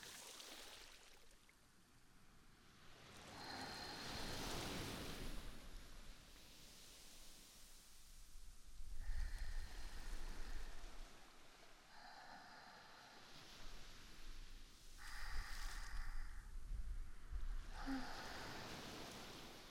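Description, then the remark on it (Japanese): Ocean waves wash up onto a beach of warm sand and over a person's feet in slow, repeated surges, each swell rising into a broad hiss and then drawing back. The surf sounds steady, with no voices. “足元を波がさらっていきますね。”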